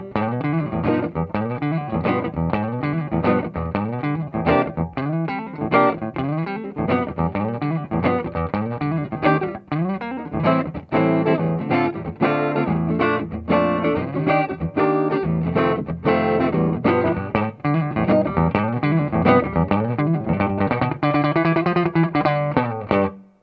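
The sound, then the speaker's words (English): An electric guitar on its neck pickup, played through an amp miked with an Audio Technica mic and an AEA ribbon mic, plays a steady stream of notes and chords, fairly loud and even throughout, with some bent, sliding pitches toward the end and no voices. “Before you go away from the neck pickup, play it just softly and clean so they can hear how much frequency response, so it's not.”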